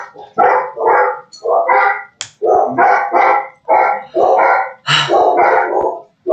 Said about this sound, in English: Okay, are you gonna stop now, dogs? Because I'm trying to speak.